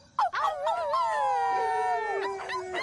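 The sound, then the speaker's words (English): Several dogs howl together in long, wavering overlapping tones, after a couple of sharp yelps at the start. The howling is loud, continuing steadily to the end. “We're trying to get the dogs barking, not summon some cows in Idaho.”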